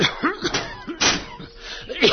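A window is pushed open with a single short, fairly loud wooden bang about halfway through, while people keep talking before and after it.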